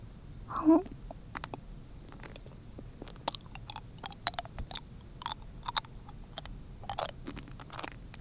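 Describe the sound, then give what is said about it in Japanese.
Wet mouth sounds of someone sucking and crunching a hard candy ball, with clicks, smacks and brief crackles scattered irregularly throughout, after a short louder burst near the start. “楽しみすぎて生つば吐いてしまいそうやさかいに、雨玉ちょこっと失礼するな。”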